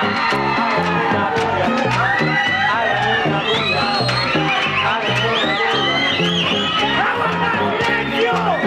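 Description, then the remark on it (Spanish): A loud crowd, told to all clap and make noise, cheers and shouts over steady clapping, with many overlapping voices whooping and yelling at a constant, dense level throughout. “aplaudiendo todos, aplaudiendo todos, aplaudiendo todos, aplaudiendo todos. ¡Hagan una bulla!”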